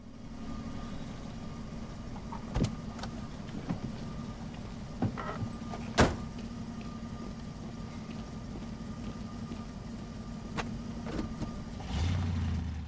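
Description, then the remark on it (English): Inside an idling car, soft rustling and a couple of sharp clicks lead to a firm thunk as a door opens and a woman climbs out of a man's car, with the engine humming steadily throughout. “She hugs him before getting out of his car.”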